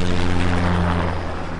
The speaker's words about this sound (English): He plays 4 different sounds, all at the same average decibel level, but points out they're widely different in terms of annoyance. He starts with rain and thunder. Then a helicopter flying overhead.